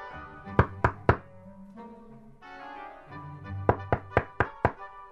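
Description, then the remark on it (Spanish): Three firm knocks on a cabin door, a short pause, then a quicker run of five more knocks, loud over a soft tonal background hum. “Durante un rato tus llamados no tienen respuestas. Pero por fin, Javier abre la puerta.”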